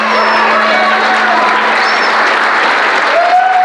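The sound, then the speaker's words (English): A large crowd claps steadily and loudly as a speaker pauses, a dense wash of applause with a few faint whistles and cheers rising through it. “But as I kind of slowed down to do that, the crowd started clapping.”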